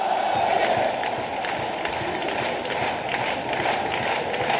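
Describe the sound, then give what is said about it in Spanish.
A stadium crowd at La Romareda, at a derby match against Huesca, roars in a dense, continuous wash of shouting and cheering, holding at a steady, fairly loud level for several seconds with no single voice standing out. “Ahora crece el griterío.”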